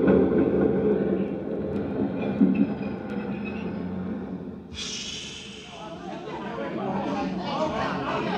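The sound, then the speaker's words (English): Busy subway station ambience at 59th Street: a deep, steady train rumble fills the space, then a bright hissing screech of brakes cuts in partway through, with indistinct crowd chatter murmuring underneath. “worked in the change booth in the subway station at 59th Street.”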